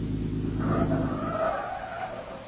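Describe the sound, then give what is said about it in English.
Car tires skid and squeal through a curve, a sustained screech over a low engine rumble that builds and then gradually fades over a couple of seconds. No one speaks. “I'll take a last curve and a straightaway.”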